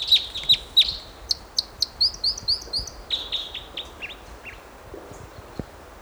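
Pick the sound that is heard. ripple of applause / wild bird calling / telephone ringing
wild bird calling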